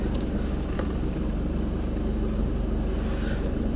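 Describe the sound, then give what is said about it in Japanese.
A car engine rumbles steadily at low speed, continuous, with a deep droning hum and faint higher whine, as the driver slowly maneuvers the car into a parking space; no voices. “この車が大きいのかな。”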